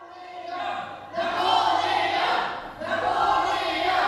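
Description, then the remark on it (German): A group of farm animals shouts and cheers together in two sustained swells, the second surge following a brief dip, the voices blending into a somewhat flat, unenthusiastic roar. “Zwar stimmen alle mit ein, doch echt klingen die Jubelschreie nicht.”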